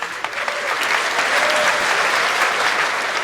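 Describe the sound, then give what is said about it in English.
A crowd claps steadily in sustained applause, a dense wash of many hands, fairly loud, continuing evenly for a few seconds with no voices over it, an audience applauding the announcement of the Tildagon badge. “A round of applause, everyone was very excited.”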